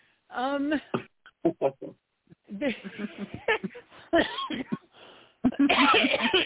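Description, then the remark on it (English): A few short, harsh coughs burst out, tangled with breathy voiced sounds and what could be laughter, ending in a longer rough, noisy fit. “There was something I know, and I'm even coughing.”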